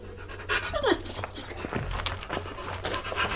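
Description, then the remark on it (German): A dog pants rapidly and steadily, its quick breaths filling the whole stretch, with a brief whine-like tone near the start and a low hum underneath. “Braver Hund, das hast du gut gemacht”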